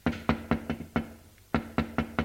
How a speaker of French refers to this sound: Il frappe à la porte de sa chambre.